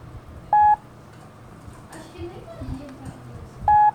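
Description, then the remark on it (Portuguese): Two brief, identical mid-high beeps sound about three seconds apart, each a single short Morse dot for the letter E, with faint murmuring in between. “e a letra E de eco, que tem o sonzinho curto, um só, de...”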